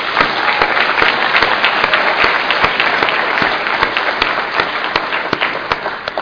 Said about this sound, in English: And, you know, I think that they just deserve a bit of applause for doing this thing.